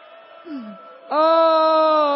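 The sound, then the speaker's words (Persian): A voice imitates a crying child: a soft moan with a short falling whimper, then a sudden loud, sustained wail held until the end. “چند تا چیز از بچه یاد بگیر، وقتی چیزی رو دیر بهش میدن داد میزنه گریه میکنه، مادر زود میدوه بغلش میکنه.”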